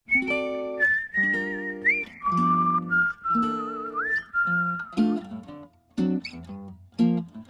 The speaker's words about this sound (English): And we'll hear him singing and whistling on the song,